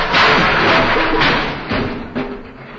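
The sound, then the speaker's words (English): The contents of a closet crash out when the closet is opened: a loud, sustained crash of assorted objects tumbling and clattering down, a dense jumble of bangs and rattles that gradually thins out, with a couple of final thuds near the end. “Okay, but don't open the door. This is the way out. It's the closet.”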